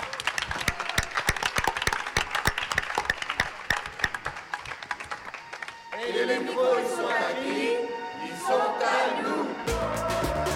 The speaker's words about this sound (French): Donc je vous demande encore une fois de les applaudir.